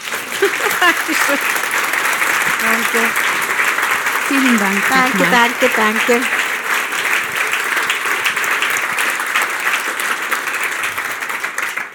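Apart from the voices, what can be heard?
audience applause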